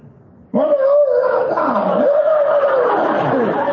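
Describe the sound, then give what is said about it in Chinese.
A man's voice imitates a wolf howl, one loud, sustained wavering cry that starts abruptly and holds for about three seconds, rough and strained. “谢谢你们给我学狼叫的鼓励。”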